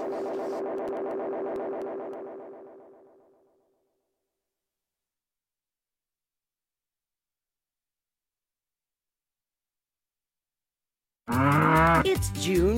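A single long, loud cow moo holds steady and then fades away over a few seconds, leaving a long stretch of silence before a person begins speaking at the very end.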